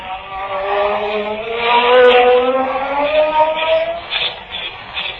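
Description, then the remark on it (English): A magic ray sound effect as a ray burns off handcuffs: a loud, sustained buzzing whine with layered tones that slowly climb in pitch, humming steadily for about five seconds with no voices. “Now to burn these handcuffs off with my magic ray.”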